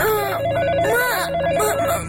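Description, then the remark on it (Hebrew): A phone rings at three in the morning with a warbling electronic tone, repeating in quick trilling bursts over a steady low hum, clear with no talking. “מי מצלצל בשעה כל כך מאוחרת? הוא ניגש למכשיר הטלפון והרים בחשש את השפופרת.”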